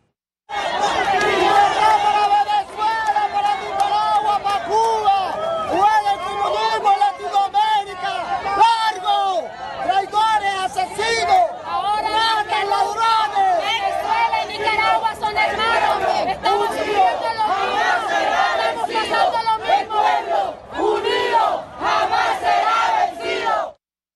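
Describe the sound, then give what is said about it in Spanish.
A large crowd of Venezuelans and Nicaraguans protesting in front of the United Nations in New York against the regimes of Venezuela, Nicaragua and Cuba chants and shouts together in a steady, loud rhythm, many voices blending into a continuous roar that barely lets up. “frente a las Naciones Unidas, en Nueva York, venezolanos y nicaragüenses se unieron para protestar contra los regímenes de Venezuela, Nicaragua y Cuba, pidiendo la salida de las dictaduras que gobiernan en esos países y la libertad para sus pueblos.”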